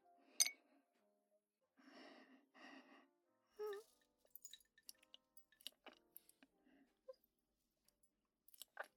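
A single bright clink of glasses raised in a toast with fizz drinks rings out at the start, crisp, followed by breathy exhales and a scattering of soft, small taps and clicks.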